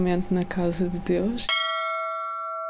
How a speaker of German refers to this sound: Wenn der Gläubige eintritt, läutet er diese Glocke, um zu zeigen, dass er da ist.